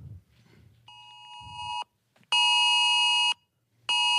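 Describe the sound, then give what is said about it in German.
An emergency evacuation alert tone blares in long, steady electronic blasts: a softer first burst, then two loud ones separated by brief gaps of silence, with a harsh, buzzy, high-pitched ring. “Hey, Evakuierung, unbedingt jetzt da bitte die Gegend verlassen.”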